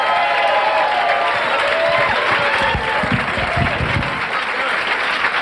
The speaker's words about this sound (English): Thanks for applause